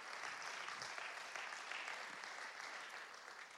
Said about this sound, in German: Und ich zeige euch mal, ja, da gibt es Applaus von der Gemeindeleitung, wunderbar.